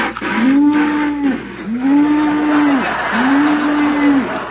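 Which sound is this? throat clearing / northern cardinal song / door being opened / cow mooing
cow mooing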